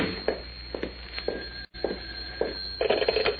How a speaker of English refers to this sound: Oh, and there's my phone. Now what?